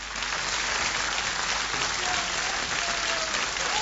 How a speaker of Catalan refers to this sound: La tens? Posa-la. No la tens, és igual. Ja aplaudirem tu i jo.